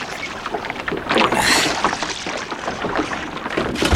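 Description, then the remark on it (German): Someone clambers into a small boat with the help of two others: hollow knocks, scraping and water sloshing against the hull as weight shifts, lasting a few seconds with no talking. “Helf mir mal ins Boot, ihr beiden.”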